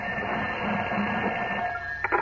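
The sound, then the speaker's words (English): An old telephone rings in Clark Kent's Metropolis apartment with a steady, continuous metallic trill that holds at an even level for about two seconds, followed by a couple of brief knocks at the end. No one speaks. “As we continue, a short time later, Clark Kent enters his Metropolis apartment to find his telephone ringing.”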